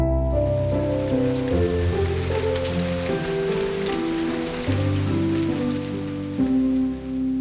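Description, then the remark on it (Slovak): Steady rain patters continuously across a surface, with a gentle melodic music line playing clearly underneath and shifting notes every second or so, no voices. “Raz celý deň pršalo. Všade bolo mokro a chladno a psíček s mačičkou nemohli ísť von a nemali čo robiť.”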